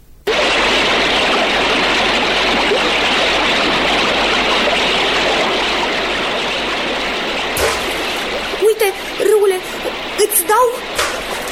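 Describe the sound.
Loud, steady rush of river water splashing around a drifting boat that has come loose, with a few short bursts of a voice breaking through near the end.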